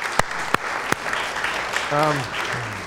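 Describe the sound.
A crowd applauds steadily, a dense wash of clapping with a few sharp, louder claps standing out near the start, while a voice speaks briefly near the end.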